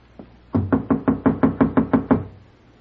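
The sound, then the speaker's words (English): A rapid series of about nine firm knocks on a wooden door, evenly spaced and resonant, loud with no voices, preceded by one faint tap. “There's somebody outside my door.”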